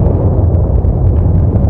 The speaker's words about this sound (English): Another earthquake.